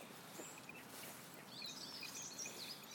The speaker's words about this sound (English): The water and the flowers and the birds. All the blackbirds are so beautiful. They're singing.